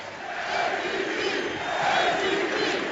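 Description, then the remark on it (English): A large basketball arena crowd at a Knicks game chants in unison for Michael Beasley, a loud sustained roar with rhythmic swells of many voices rising and falling, no single speaker standing out. “Listen to this crowd. The chants aren't for Kristaps Porzingis, who has not played here in the fourth.”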